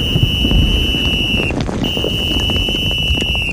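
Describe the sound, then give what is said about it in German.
A steady, piercing alarm buzzer drones on, cutting out briefly midway before resuming, over a heavy rumbling background of low noise and wind. It is an alarm calling all men to their posts during shelling at 2:20 a.m. on 24 February 1917. “Alarm! Alle Mann auf ihre Posten!”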